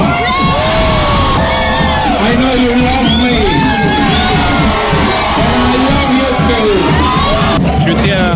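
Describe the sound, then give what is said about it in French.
A large crowd chants and cheers loudly, many voices rising and falling together in a sustained roar with shouts and whoops throughout, answering the candidate Faa with the campaign slogan "I love you Faa" after an election. “S'il perd près de 4 points et 2000 voix depuis 2014, c'est avant tout du fait de l'abstention, assure-t-il, devant une foule qui a répondu à son slogan « I love you Faa ».”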